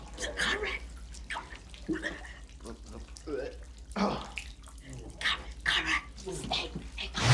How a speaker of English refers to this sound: From above, a thin stream of liquid pours through one of the toilet seats.